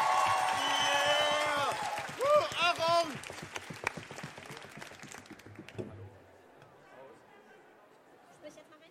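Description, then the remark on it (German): An audience voting by applause for the second finalist snaps, claps, stamps and loudly cheers and shouts in a rapid, dense patter, the roar strongest in the first few seconds before tapering to scattered claps and quieter murmuring. “Wir fangen an mit Schnipsen für den 2. Finalisten. Wir fangen an mit Klatschen. Wir trampeln mit den Beinen. Und wir schreien, was das Zeug hält”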